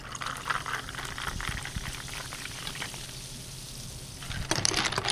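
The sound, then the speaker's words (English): Club soda being poured into a glass, with a steady crackling fizz of bubbles throughout and a brief louder splash near the end; nobody speaks. “We like the club soda for that carbonic bite.”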